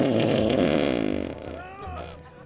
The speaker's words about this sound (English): please put a fart in here.